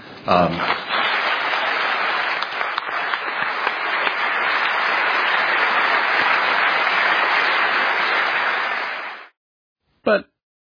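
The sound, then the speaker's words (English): A crowd applauds steadily for about nine seconds, a dense, even wash of clapping that cuts off abruptly, followed by a brief burst of sound after a moment of silence. “You heard them applaud.”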